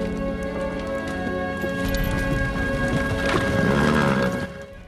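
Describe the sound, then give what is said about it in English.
A hearse pulled by two black-plumed horses rattles across a bleak landscape as snow drifts down, in A Christmas Carol: steady clip-clopping hooves and a horse whinnying, set against a sustained tonal musical background that swells before cutting off. “A hearse pulled by two black-plumed horses rattles across a bleak landscape, snow drifts down.”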